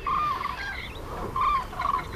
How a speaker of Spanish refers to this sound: Las grullas acababan de cruzar el Pirineo, venían muy altas y estábamos escuchando un bando muy arriba, mientras abajo cantaban los aves de la estepa. Ahí, muy arriba están.